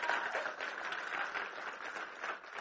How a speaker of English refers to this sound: Let's give her a round of applause again. That was amazing.